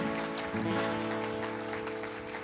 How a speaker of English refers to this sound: Everybody say amen this morning. Give them a great clap offering. Would you do that?